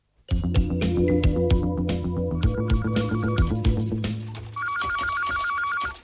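A telephone rings in an office at Paragem, a French company, with a dense, warbling electronic tone over a busy background, then switches to a regular pulsing trill near the end. No one speaks.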